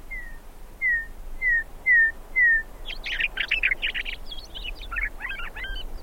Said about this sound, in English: You haven't heard a bird till you've heard a meadowlark. And once you hear that, you never forget that.